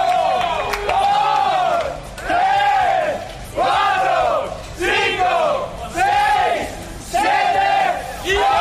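Marc Márquez's team and fan club cheer and chant in celebration, with loud rhythmic bursts of shouting roughly every second, rising and falling in unison over constant crowd noise, as carried by DAZN's World Championship broadcast.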